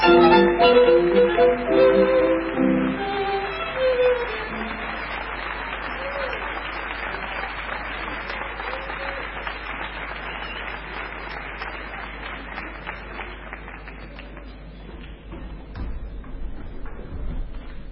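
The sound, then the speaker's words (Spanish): A theatre audience gives steady applause as the performers arrive on stage, a dense crackle of many hands clapping. It rises loud at first, then holds at a sustained, slightly fading level, with some tonal sound underneath at the start. “Si hemos sido más lentos que vuestros aplausos.”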